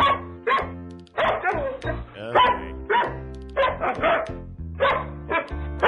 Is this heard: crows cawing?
no